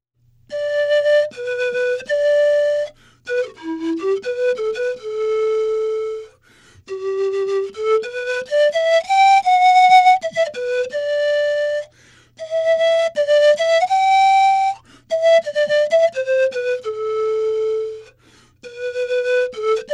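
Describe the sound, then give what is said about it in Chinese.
A bamboo flute plays a flowing solo melody of sustained, clear notes, with some sliding pitch bends and brief pauses between phrases. It is loud and steady throughout, with no voices. “当音乐来敲门，大家好，我是竹排笛艺术家”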